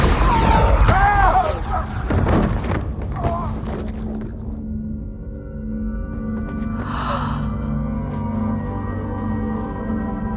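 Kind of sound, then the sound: sound effect, explosion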